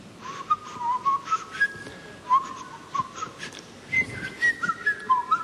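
A person whistles a melody, a series of clear, sliding tones in short phrases with brief pauses between them, close and fairly soft, with no talking.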